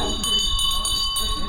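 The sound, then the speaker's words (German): A bell is rung to announce breakfast at a horse farm, ringing out with a steady, sustained metallic tone for over a second, loud, while a crowd in a full hut murmurs with voices in the background. “läutet ein.”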